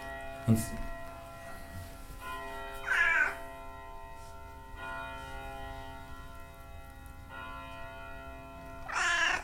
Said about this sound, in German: Und sie schwätzelt. Sie ist eine schwätzende Katze. Das tut schon. Mit dir kann man schwätzen, gell?